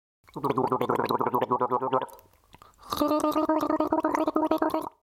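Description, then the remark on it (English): Someone gargles water in their mouth to imitate the gurgling sounds of a nightingale, with two long, bubbling, voiced bursts and a short pause between them. The gurgling is loud and rapidly warbling, with no speech. “And then they took water in their mouths to make them utter the gurgling sounds of the nightingale when they spoke to anyone, so that they might fancy themselves as nightingales.”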